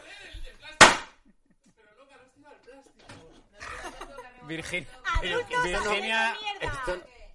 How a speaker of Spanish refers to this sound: ha tirado un petardo contra un plástico